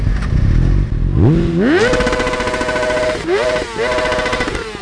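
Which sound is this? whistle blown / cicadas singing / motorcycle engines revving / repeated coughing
motorcycle engines revving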